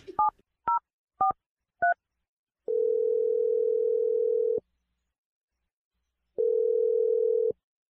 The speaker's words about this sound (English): I'm gonna dial your sister's phone number right now. And we're gonna let you make your Awkward Tuesday phone call, man.